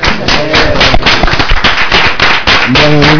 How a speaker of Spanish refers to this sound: Muchas gracias. Un aplauso.